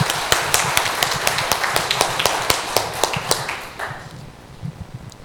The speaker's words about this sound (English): Raise the cheer.